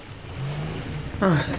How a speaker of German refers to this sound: Ein Auto kommt.